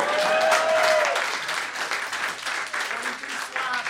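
A crowd applauds in a dense, steady wash of clapping that stays loud for the full few seconds, with a faint whistle or cheer rising early on.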